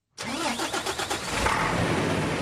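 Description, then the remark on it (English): A truck engine cranks with a quick series of rhythmic starter pulses, then catches and settles into a steady, loud rumble, with no voices; the truck, carrying apples, is at the open gate of the Kunitra checkpoint in the Golan Heights, about to cross from Israel into Syria. “The gate is just open, and the truck driver is about to cross into Syria, up here in the Golan Heights on the border with Israel.”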